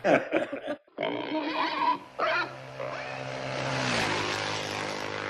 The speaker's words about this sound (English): Am I allowed to play pig squeaking noises now?